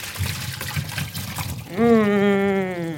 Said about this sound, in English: And while you're doing that, I'm going to get our butternut squash over to the sink. Okay. To drain the water out.